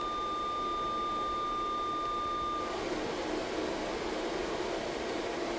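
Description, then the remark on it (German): Steady synthesized noise hiss runs evenly throughout, with two thin, steady electronic tones sustained over it for roughly the first half before stopping and leaving the hiss alone. “Tun wir das Rauschen auch weg, das brauchen wir gar nicht.”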